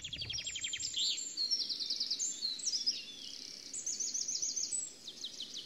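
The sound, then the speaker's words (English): Several birds sing and chirp continuously in a forest in a natural amphitheater below a cliff, reached by a moss-covered staircase, with bright overlapping trills and rapid repeated notes over a soft ambient background with no talking. “And as you descend this rickety, moss-covered staircase, you enter into this natural amphitheater, and the birds and the forest just come alive.”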